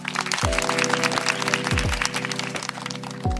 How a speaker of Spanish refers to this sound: Un aplauso entonces para Juan Manuel de Rosas.